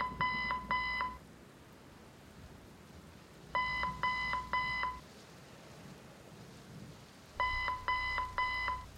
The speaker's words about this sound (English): An alarm goes off saying I have a malfunctioning weather sensor in Sector C. So I pressed the diagnostic button to see if it's something worth waiting on until the morning.